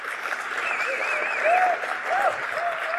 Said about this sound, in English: So a quick, sharp, but very loud, intense clap, and then we move on to the next one, all right?